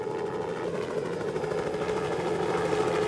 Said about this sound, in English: Half an hour later, they heard a helicopter, so they started to wave.